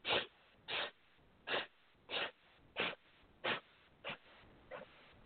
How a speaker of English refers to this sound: Four equal parts in, four equal parts out. With every sniff, pulling that navel point back towards the spine.